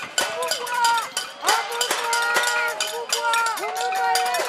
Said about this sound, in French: La tempête de neige ne les a pas freinés. La petite centaine de manifestants s'est réchauffée en interpellant à distance les élus. Autrefois brûlantes sur les fourneaux, les casseroles se sont transformées en instruments de revendication.